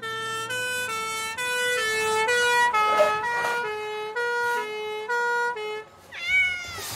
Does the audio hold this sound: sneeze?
no